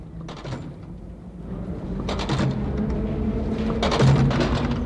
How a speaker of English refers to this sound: The sound we are listening to now is the sound of people putting their 15-cent tokens into the turnstiles and entering our city's underground railroad.